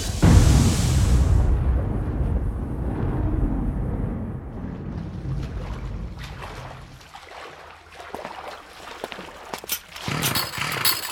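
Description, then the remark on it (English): Leaf blowers run by gardeners roar with a loud, steady rush of engine noise and blasting air, opening with a sharp hissing burst and later broken by rattling, crackling spurts. “Well, those are some pretty serious leaf blowers you got there.”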